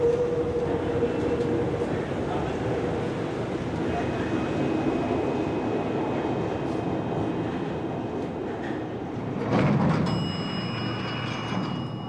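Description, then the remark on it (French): A metro train rumbles steadily along, a dense roar with a low hum, swelling near the end as high metallic whines and squeals ring out above it, with faint murmuring voices underneath. “Et là, je suis en panique parce que le métro est en travaux.”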